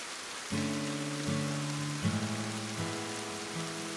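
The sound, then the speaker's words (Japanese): Steady rain patters in a soft, even hiss throughout, while gentle sustained musical chords shift every second or so over the top. There is no talking. “と顔を上げると雨が降っていた。”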